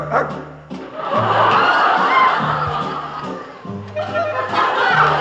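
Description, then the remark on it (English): A dog barks a few short times over a busy, full band playing steadily in the background; the barks are mixed into the music. “My love needs a doggy to protect him and scare them away with one bark.”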